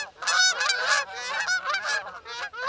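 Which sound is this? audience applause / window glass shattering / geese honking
geese honking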